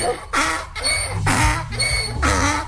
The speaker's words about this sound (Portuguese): Ó, o jumentinho ali.